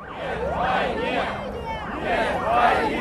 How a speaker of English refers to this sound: At a gathering of anti-war protesters on Sunday, a crowd of several hundred milled outside Russia's defense ministry chanting, "No to war."